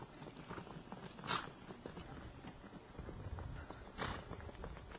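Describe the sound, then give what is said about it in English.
Several horses gallop across the ground toward the listener after rounding a corner, their rapid, overlapping hoofbeats thudding in a steady rumble, with a couple of louder bursts along the way. “Hear the galloping of the horses as they approach us and about to stampede us.”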